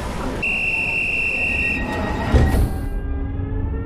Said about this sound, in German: Achtung, Zug fährt ab. Bitte alle einsteigen.